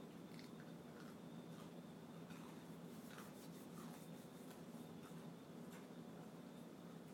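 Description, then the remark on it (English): Chewing crunchy, slightly burnt food cooked in an air fryer, a steady run of crisp, irregular crackles and bites over several seconds with a low background hum and no talking. “My food is definitely crunchy.”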